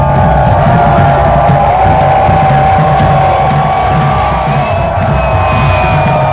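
A large protest crowd cheers and shouts continuously at someone who has climbed a pole with a sign reading "Revolution, no WEF", a dense roar of many voices with occasional whoops rising above the din.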